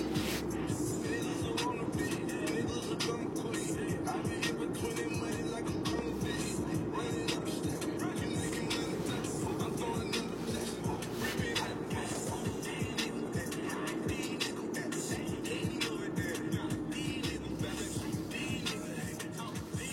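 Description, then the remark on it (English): A car is pushed along by hand by one man, its tires giving a steady rolling rumble with rattles and creaks that continue without pause for the whole stretch. “Being one dude pushing a car, like, it's that car it's moving.”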